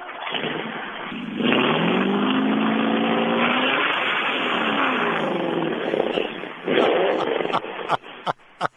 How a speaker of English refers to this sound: has the one R3-powered Avani-powered Lark two-door sedan, 1964 model, and he'd be happy to fire it up for you. Please, we'd love to hear that. Okay, shifting the four-speed out of neutral. Okay.